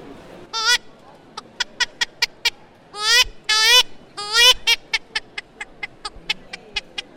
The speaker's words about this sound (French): Et le canard.